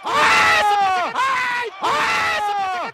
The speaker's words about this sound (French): Alors, si ça crie comme ça dans leur chambre à coucher, je plains les voisins.